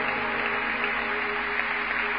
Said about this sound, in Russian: Дадим Иисусу благодарность аплодисментами в это утро.